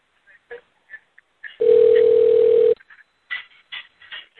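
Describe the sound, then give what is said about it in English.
A single steady electronic phone ringing tone sounds loudly for about a second, one unbroken pitched beep, as a phone number is called again, with muffled chatter and voices before and after it. “Okay, I'll call it again.”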